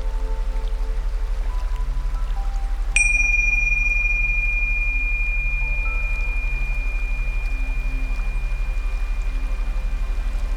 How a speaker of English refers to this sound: We're now going to take a moment to notice your sensations. First, become aware of the sound of the bell.